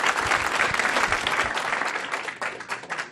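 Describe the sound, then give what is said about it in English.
An audience applauds steadily, a dense wash of many hands clapping at once, loud and sustained throughout with no voices standing out. “And let's give John one more big round of applause.”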